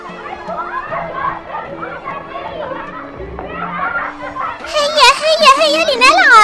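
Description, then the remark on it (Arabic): A crowd of children playing, their overlapping high voices chattering and calling out nonstop, growing louder and more excited with shrill shouts toward the end. “أجمل منظر هؤلاء الأولاد وهم يلعبون.”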